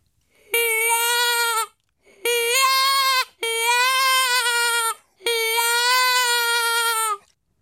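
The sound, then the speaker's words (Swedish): Four loud, drawn-out bleats of a distressed lamb, imitated on a hunting lure call to attract predators that kill sheep, each about a second long with short gaps, clear with no other sounds around them. “Lammångest för att locka djur som döda får.”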